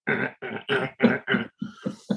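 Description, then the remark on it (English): A voice imitates a grey squirrel's call with a quick rhythmic series of eight harsh, raspy chuffs, the first five fuller and the last three shorter and breathier. “The gray squirrels make a weird noise, not like the little red. The gray squirrel's more of a...”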